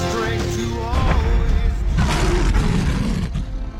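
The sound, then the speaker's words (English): A deep, rumbling roar from a lion, loud, sustained for several seconds with rough low-frequency growling and rising swells of intensity. “When a lion roars, it's declaring its lordship over its territory.”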